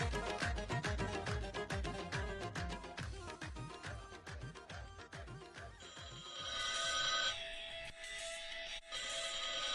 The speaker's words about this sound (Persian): گوشک تلفن وردار جان مادر. ای مادر جان چرا من وردارم دیگه؟